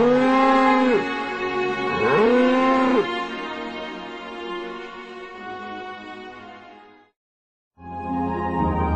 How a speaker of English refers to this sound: This mother cow who loves that baby, and this baby cries for her as he's being taken away.